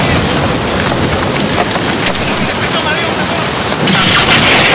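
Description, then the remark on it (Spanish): A loud, steady roar of wind-driven rain fills the scene without pause, a dense hiss of downpour with gusts that swell slightly toward the end, like a storm at sea. “Estoy seguro que si le hago caso a Dios, o mejor dicho, si les hace el divino, la tormenta va a parar.”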